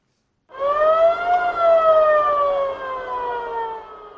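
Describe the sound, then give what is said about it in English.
An ambulance siren wails loudly and steadily with a long rising-then-falling tone over faint road noise, then eases slightly as the ambulance moves past, rushing people wounded in armed confrontations on Cameroon's border with the Central African Republic. “This ambulance rushes with people said to have been wounded in armed confrontations between Cameroon's military and armed groups from the Central African Republic on the border of the two Central African states.”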